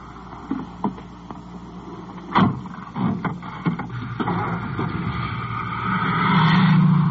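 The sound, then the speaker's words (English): A car engine idles with a low, steady hum beneath a few scattered knocks and thumps, then swells louder as the car pulls away. No one speaks. “So let's make our way on back to the car here.”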